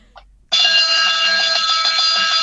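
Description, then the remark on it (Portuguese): A pedal-operated warning bell, serving as the vehicle's horn like a car horn, starts suddenly when the pedal is pressed and rings loud and continuous for about two seconds, a bright metallic clang with steady high overtones and a faint rattling pulse underneath. “O pedal é a buzina. É como se fosse a buzina do carro.”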